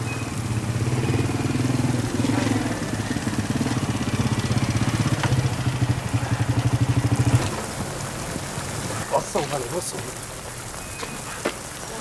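A motorcycle engine idles with a steady low rumble for several seconds, then cuts off, leaving quieter background noise with a few light clicks and taps.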